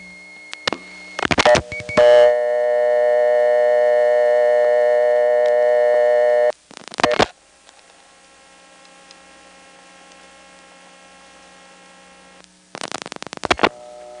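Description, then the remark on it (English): Step-by-step telephone switching gear clatters in three bursts of rapid clicking as digits are dialed. Between bursts, a steady buzzing tone hums on the line and changes character after each digit. No one speaks. “the background noise changes every time I dial a digit, and that has to do with the type of switching equipment that this is”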